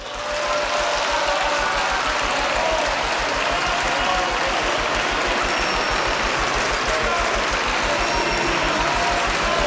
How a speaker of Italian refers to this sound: Presidente del Consiglio, sia pure con applausi, però facciamolo finire.